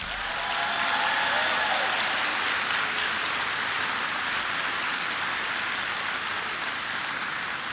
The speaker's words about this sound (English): Please give them a big round of applause.